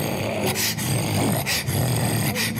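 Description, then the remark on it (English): Several sharp dog barks, about three spaced roughly a second apart, sound over a steady, noisy background, fairly loud. “And now the dogs come and they're barking.”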